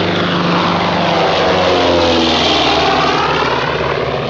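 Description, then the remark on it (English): A propeller airplane, the plane to Lisbon, drones steadily overhead, its loud engine roar filling the whole moment with a rich, throbbing hum that subtly shifts as it passes. “The plane to Lisbon.”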